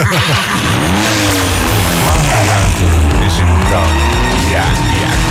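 An electric car's tires spin and squeal loudly and continuously for several seconds, with a whining motor rising and falling in pitch underneath.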